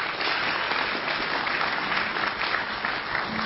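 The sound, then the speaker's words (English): A large audience at a Pops concert applauds steadily to welcome the listeners of the TIC network broadcast, a dense wash of clapping hands that stays loud and even throughout, with no voices standing out. “We have the TIC network here again for this concert, broadcasting to over 30,000 listeners, and I'd love a round of applause to welcome that audience.”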